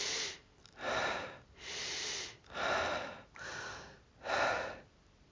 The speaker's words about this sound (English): And again, you can play around with your speeds of breath. Maybe fast.